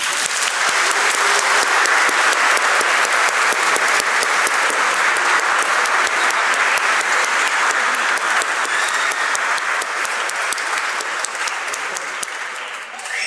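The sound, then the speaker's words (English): A crowd of people clapping steadily and loudly for over ten seconds during a church service after a baptism, a dense, even patter of many hands that tapers slightly toward the end. “And I think now we can clap.”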